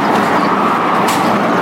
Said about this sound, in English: You can probably hear a plane there.